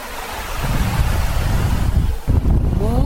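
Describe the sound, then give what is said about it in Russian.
Sea waves wash steadily onto the shore in a continuous, fairly loud rushing roar, with wind buffeting the microphone throughout; no one speaks. “Море, море, мир бездонный, тихий шелест волн прибрежных.”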